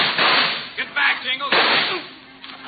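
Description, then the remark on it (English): Two loud, sharp gunshots crack about a second and a half apart, each trailing off in a rough, ringing decay, with a muffled, lo-fi quality and no talking. “Bill! Bill, you're hit, Bill!”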